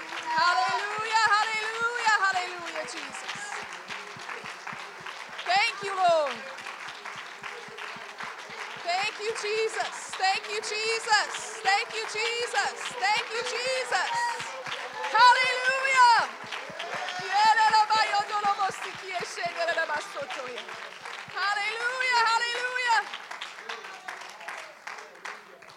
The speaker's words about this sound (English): And would you clap your hands and praise the Lord for right now.